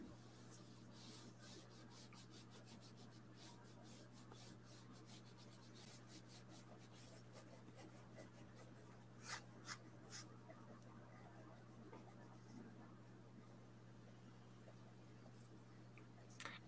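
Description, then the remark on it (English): Soft scratching and rubbing of an Apple Pencil drawing on a tablet screen, steady and quiet throughout, with a few sharper taps partway through and a low hum underneath. “I've managed to get a wee bit of charge now on my Apple Pencil, which is great.”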